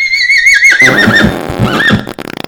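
A horse lets out one loud whinny, starting high and shrill, then dropping into a shaky, fluttering neigh before trailing off into a few soft snorts.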